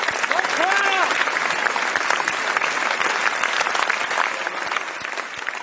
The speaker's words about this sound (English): The ovation was completely organic, and at 22 minutes, yep, 22 minutes, it was the longest known standing ovation in American public life.